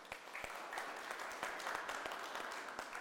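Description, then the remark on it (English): A church gathering at the Vines applauds its volunteer groups, many hands clapping in a dense, continuous patter with a few sharper individual claps standing out, holding a fairly even level throughout. “So again, round of applause.”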